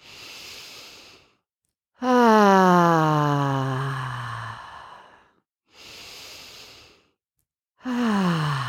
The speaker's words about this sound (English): So let's close our eyes and let's take just three nice deep breaths in through the nose, out through the mouth, okay? Breathing at your own pace.